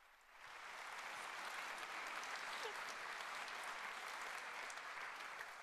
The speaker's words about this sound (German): Okay, also einen großen Applaus für